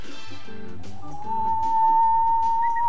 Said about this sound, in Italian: Avete sentito? Certe volte bisogna provare tantissimo. Ci potrebbe aiutare questa canzone. Provate a fischiettare, vedrete che il lavoro più leggero vi sarà.